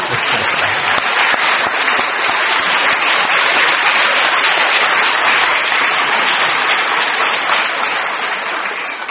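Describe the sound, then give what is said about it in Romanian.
A church audience applauds a baby boy held up before them, a loud, dense wash of many hands clapping at once with no break for several seconds, tapering slightly at the very end. No voices come through. “Aș vrea să-l ridici în fața bisericii și să-l mai aplaudăm o dată.”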